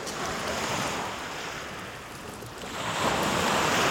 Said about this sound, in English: It's a lot rougher here. But you just get a sense of the magnitude of this river.